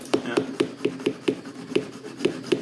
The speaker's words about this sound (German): Was ist? Das ist dein Milchaufschäumer, ja. Guck mal, wir kriegen heute Oldschool entkoffinierten Kaffee.